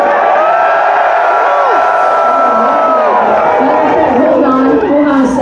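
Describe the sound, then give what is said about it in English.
A large crowd of people outside a concert cheers and whoops continuously, a dense wash of overlapping voices shouting and calling out, loud and sustained throughout. “People outside cheering”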